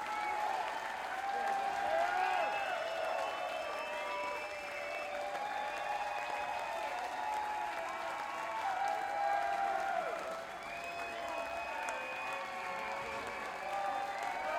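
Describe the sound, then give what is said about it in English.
An audience at a band's live show applauds steadily for about fifteen seconds, a dense, even wash of clapping with whoops and cheering voices woven through it, staying loud throughout. “…, everyone, give a big round of applause”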